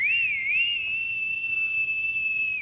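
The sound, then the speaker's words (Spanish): A person whistles once toward the house across the street as an alarm signal: a single loud, clear whistle, with a short warble in its pitch at the start before it settles into one long steady tone. It stands alone over faint background noise. “Silbó una vez hacia la casa de enfrente.”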